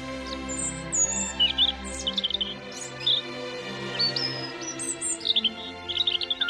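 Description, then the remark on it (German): A European robin sings a run of high, thin, warbling phrases with short pauses between them, clear, with a faint low hum underneath and no talking. “Und auf Platz 1 und damit als Vogel des Jahres 2021 findet sich das Rotkehlchen.”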